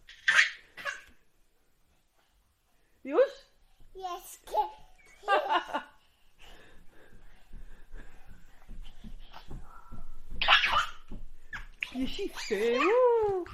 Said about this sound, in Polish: Jest jakiś pies.